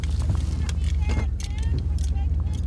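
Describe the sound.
A steady, loud low rumble of an engine from inside a moving pickup truck, with road noise, a few light clatters, and faint muffled voices underneath.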